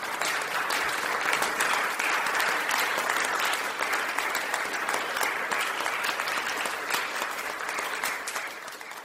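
A room full of people at a meeting claps steadily for a poetry recitation, a dense, sustained wash of applause that stays fairly loud and even for the whole stretch, with no one speaking over it.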